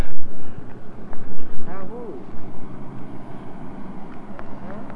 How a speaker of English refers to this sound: There went a car. Volkswagen.